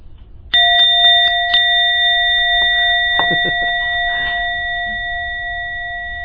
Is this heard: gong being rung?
yes